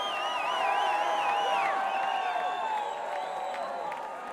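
audience cheering and applause

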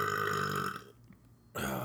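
burp

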